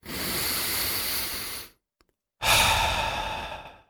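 A long, steady breath drawn in, a short silent pause, then a strong breathy exhale that slowly fades, with no talking, in a radio advertisement for a Tadiran air-purifying air conditioner.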